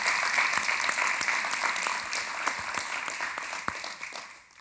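A crowd applauds with steady, dense hand clapping, a bright crackling wash of many hands with a few sharper individual claps standing out, fading slightly toward the end.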